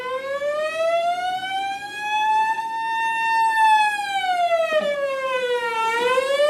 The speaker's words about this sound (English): Oh, it sounds like a siren. Right, but one thing. What? What kind of a car? What kind of a car? Yeah. A police car, an ambulance, or a fire truck? Which do you think it is? Fire truck. A fire truck.